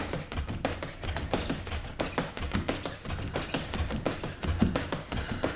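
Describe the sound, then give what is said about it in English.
Rapid footsteps patter on the exercise step of a No Sweat workstation as a man does a fast feet drill, a quick, steady run of light taps and dull thuds with no pauses, with no voices. “As he quickly reconfigures a couple of parts, he launches into his fast feet drill.”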